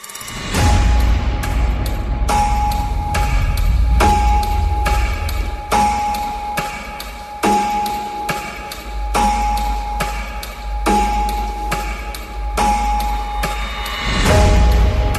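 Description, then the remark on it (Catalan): A clock ticks in a steady, even rhythm of sharp clicks, set against a sustained low hum and a faint held tone, with no voices. “Avui, per tant, el tic-tac és present absolutament al centre d'aquest espai.”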